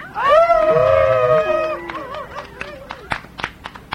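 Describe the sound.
People let out a loud, sustained wolf-like howl that wavers and slides downward over about two seconds, followed by scattered sharp claps and clicks.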